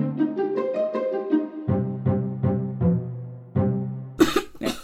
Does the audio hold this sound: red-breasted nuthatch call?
no